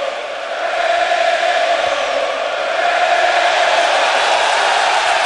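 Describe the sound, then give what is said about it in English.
A loud, sustained roar from a large ballpark crowd at a playoff baseball game, chanting "Cueto" at the opposing pitcher; a dense wash of voices chanting and yelling that holds steady and swells slightly toward the end, with no single voice standing out. “Now Cueto from the crowd.”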